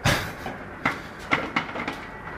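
An ice cube machine in a studio kitchen clatters: a burst of rattling at the start, then several sharp, irregular clunks and knocks as cubes drop, with a low hum underneath and no talking.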